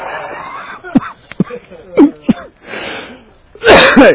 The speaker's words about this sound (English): I'm getting old and starting to cough when I laugh now.